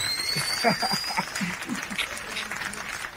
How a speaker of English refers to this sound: Let's get a round of applause for the boy ….